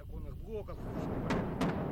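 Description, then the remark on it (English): Two dull booms of outgoing artillery fire by Donbass separatists arrive about a third of a second apart, with a low rumble underneath and brief voices at the start, heard while a janitor cleans up glass from a school's shattered windows. “The janitor cleans up the glass from the shattered windows to the sound of outgoing artillery fired by the Donbass separatists.”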